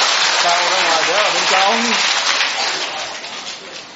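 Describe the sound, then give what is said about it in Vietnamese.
A crowd claps steadily for a group of children in a dense, crackling wash that fades gradually toward the end, while a voice speaks briefly over it early on. “À, chúng ta thấy một tràng pháo tay cho tất cả các bé này, thưa anh chị em.”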